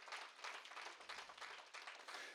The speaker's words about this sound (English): That's right. You can clap your hands for that because that's important.